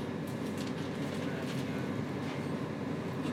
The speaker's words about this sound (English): You'd think a long distance train like this would have toilets on.